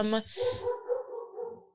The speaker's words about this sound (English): Sorry about that, y'all. If y'all hear the dog barking in the background. The heck, it's hot and we got the window open.